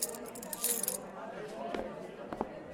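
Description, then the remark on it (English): A bright metallic jingle of keys rattles for a moment, followed by two sharper clinks a second or so apart, like keys being dropped, with faint low background murmur throughout. “Did you drop the keys outside?”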